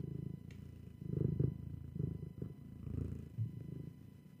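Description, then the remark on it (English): A female cat purring into the microphone, a soft, steady low rumble that swells and eases in rhythm with its breathing, with no one talking. “Will she purr for the microphone?”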